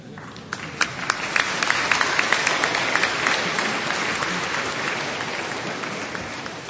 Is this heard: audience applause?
yes